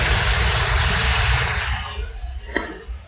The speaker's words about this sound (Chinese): 有个风扇的声音很大很大，不知道是啥意思，我看看。 哦，那就是它了，那就是你那个风扇。